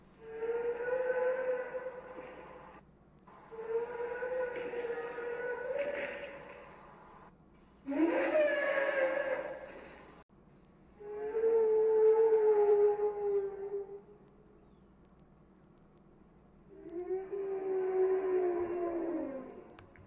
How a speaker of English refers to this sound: the sounds of the donkeys were slowed down in order to create the singing sounds that the Brachiosauruses make